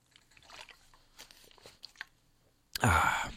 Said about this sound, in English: All right, let's take a little water break.